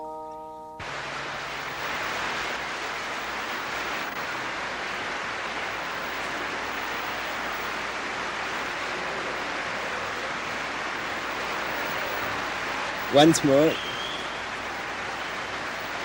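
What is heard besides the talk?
applause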